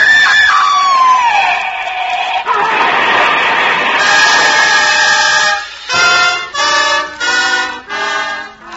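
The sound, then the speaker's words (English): A car crash sound effect: a loud skidding screech that drops in pitch, a long roaring smash of noise, then several short blaring bursts ringing out in a steady rhythm. “She'd been the lucky one in the crash.”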